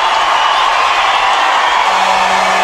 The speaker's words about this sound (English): And the Navajo Nation is cheering because it feels like the whole Navajo Nation is here. This place is full of Shiprock fans and Tohatchee fans.